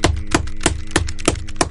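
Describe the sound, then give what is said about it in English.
Steady hammering: about six sharp, ringing blows at an even, fairly quick pace, with a low humming tone continuing underneath and no voices. “Well, I think the hammering's probably not helping.”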